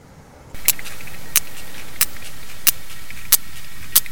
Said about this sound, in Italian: Allora, osservando un pochettino quello che è il database, ho cercato questo file dove possiamo un po' capire bene quelli che sono i suoni principali che fa un capodoglio durante la sua immersione.